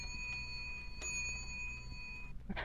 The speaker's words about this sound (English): Oh my goodness, that bell means that school is over for today.